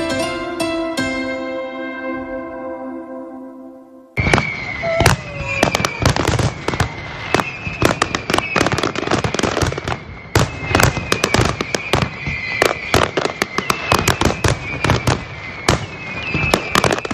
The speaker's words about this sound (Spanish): Así es como sonaba hace exactamente un año el disparo de los 1.500 kilos de pólvora del Castell de Loya, el mayor espectáculo piroacuático del Mediterráneo que volverá a iluminar la Bahía de Altea el próximo sábado.